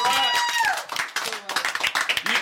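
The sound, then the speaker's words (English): A crowd breaks into a burst of dense applause, many hands clapping at once, opening with a rising then falling whoop before the clapping fills the rest. “Y'all give him a fucking round of applause.”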